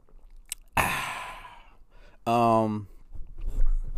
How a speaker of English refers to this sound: As I take a sip.